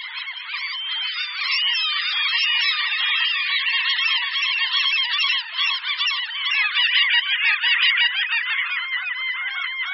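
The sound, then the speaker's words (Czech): A dense, continuous chorus of common gull (Larus canus) calls, many birds squealing and mewing over one another, loud and unbroken for the whole stretch with no talking. “Ano, je to tak, byly to hlasy racků bouřních, vědecky nazývaných Larus canus.”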